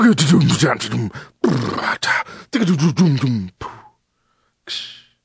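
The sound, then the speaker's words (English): A voice imitates drums with a quick run of rhythmic grunts and popping mouth hits for about three seconds, then a pause, a short trailing sound and one final breathy burst. “And drums.”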